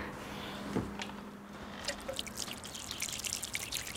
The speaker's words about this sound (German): Zudecken. Und andrücken noch einmal. Und jetzt kann ich dem Ganzen noch Wasser geben.